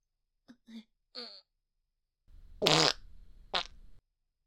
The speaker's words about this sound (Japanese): はあ、あっつ。彼氏くんの手に生おならかけちゃった。また匂ってきちゃったね。